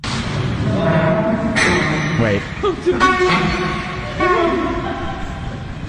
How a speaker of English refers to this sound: Listen to this one. After I hit a curb, this, I feel like everybody has this. Customer states their vehicle sounds like a goose after they hit a curb.